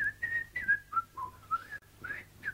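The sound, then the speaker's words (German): A girl whistles a short tune alone while chewing, with a clear melodic line gliding up and down through several notes, steady, with a few brief breaks between phrases. “Beim Kauen sang und pfiff sie immer noch.”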